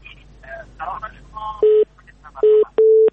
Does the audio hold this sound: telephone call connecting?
yes